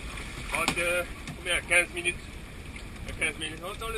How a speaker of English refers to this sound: Now it's just a short and bumpy boat ride back to the office located on Seychelles' second biggest island of Pralin.